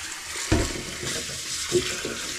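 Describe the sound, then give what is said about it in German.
Cold running water pours steadily with a broad hiss over boiled eggs in a pot, broken by a couple of hollow clunks as it splashes over them. No one speaks. “Dann kaltes Wasser über die Eier geben.”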